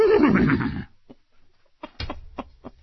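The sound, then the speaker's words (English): A person loudly imitates a horse's whinny as Mr. Ed, a shaky, wavering neigh lasting under a second, followed by a few short breathy puffs and clicks. “I am Mr. Ed.”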